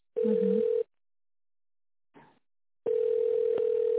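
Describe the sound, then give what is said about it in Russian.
A steady, mid-pitched telephone ringback tone while a call is transferred to the accounting department of Baikal Elektro, sounding in two buzzing bursts, a short one and then a longer one, with a soft brief rustle in the silent gap between them and no voices. “А соедините, пожалуйста, «Байкал Электро», но с бухгалтерией только.”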